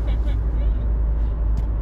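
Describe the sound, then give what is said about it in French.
Steady, loud low rumble of road and engine noise from inside a moving car, continuous throughout, with faint murmurs of voices in the background. “Nous on est bon public dans notre voiture, vous inquiétez pas.”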